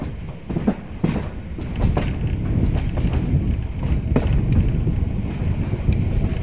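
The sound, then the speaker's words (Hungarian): A children's railway train, run with child railway workers, rolls along past János-hegy, Hárs-hegy, Virágos-völgy and Csillebérc, heard from on board: a steady low rumble with scattered sharp clacks and knocks, no voices. “A gyerekműsor mikrofonjával mi is felszálltunk a vonatra.”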